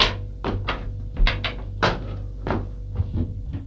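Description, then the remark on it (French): A series of wooden knocks and scrapes as a person shifts a chair and sits down on it, with several irregular thuds and creaks over a low steady hum. “s'assoit sur une chaise.”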